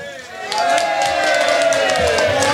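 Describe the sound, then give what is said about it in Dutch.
A choir breaks into sustained applause for the audience at the end of an afternoon gathering, dense clapping starting abruptly and continuing steadily, with crowd murmur and a few voices mixed in. “En dan krijgen jullie van het koor een geweldig applaus.”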